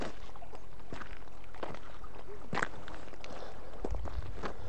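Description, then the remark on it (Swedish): Babbling water from a mountain stream of clean, clear water coming from high up a mountain, a steady gurgling wash with irregular splashy bursts and small knocks scattered throughout, with no voices. “ni hör säkert att det pålar här med vattnet”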